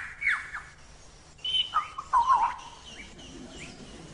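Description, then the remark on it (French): A lyrebird mimics the sounds around it, its voice jumping between sharp whistled sweeps, harsh squawks and quick chirps in irregular bursts, clear over a faint background hiss, with no talking. “L'oiseau lyre possède le don étonnant de reproduire avec précision les sons qui l'entourent.”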